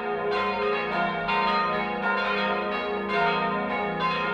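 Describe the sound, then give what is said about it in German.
The smallest bell of the Höhenhaus parish church, the family bell, rings repeatedly in a steady rhythm, its bright metallic strikes overlapping with a lingering hum, loud with no voices. “Und die kleinste nimmt das Patrozinium der Höhenhauser Pfarrkirche auf. Es ist die Familienglocke.”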